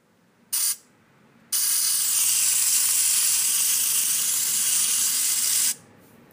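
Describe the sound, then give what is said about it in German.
Shower water sprays in a brief burst, pauses, then gushes steadily for about four seconds before cutting off; a loud, hissing rush with no voices, as people shower briefly after bathing in the sea. “Danach duschen wir uns kurz.”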